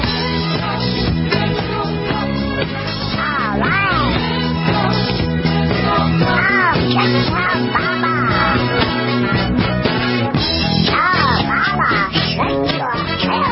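An upbeat 1976 novelty disco track plays loud and steady, with a comic quacking duck-like voice singing over the driving beat and bright instrumentation throughout.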